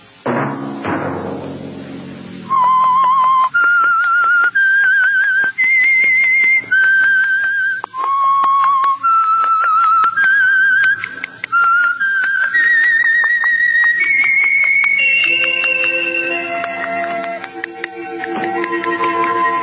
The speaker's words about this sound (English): That whistle be your signal for the Signal Oil program, The Whistler, each Sunday night at this same time.